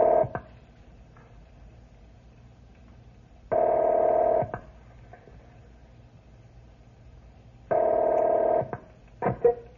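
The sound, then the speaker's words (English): A telephone being dialed to call the Forest Creek ranger station: two long, buzzing electronic tones roughly four seconds apart, followed by a couple of quick clicks, over a faint steady hum with no talking. “I'll call the ranger station at Forest Creek and see if they pick this up.”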